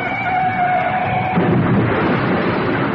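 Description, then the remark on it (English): A taxi cab crash as it reaches the Bismarck Hotel in late midtown city traffic: a steady high screech gives way after about a second to a loud, rumbling burst of crunching noise that holds on to the end, with no voices. “Craven climbed slowly out of the wrecked cab, pressing a handkerchief to his forehead where it had crashed against the cab door at the impact.”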